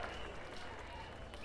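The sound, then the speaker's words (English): Soft, scattered golf-clap applause from a small crowd at a band's show, welcoming the bass player, a quiet steady patter of hands clapping politely for a moment with faint murmuring underneath. “Golf clap, golf clap.”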